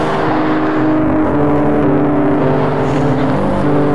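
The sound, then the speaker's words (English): Loud, steady street traffic with an engine rumbling and revving, a dense low hum filling the whole stretch without pause and no voices, heard while waiting for a bus. “I think our bus is coming. And I hope you could hear most of this, because I know the traffic's loud.”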